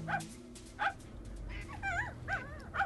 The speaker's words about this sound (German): Dafür traf ich eine Frau, die ihren Köter spazieren führte.